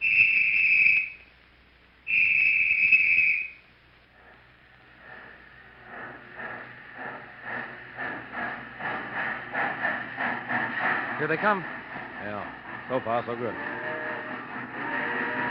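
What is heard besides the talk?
approaching train with whistle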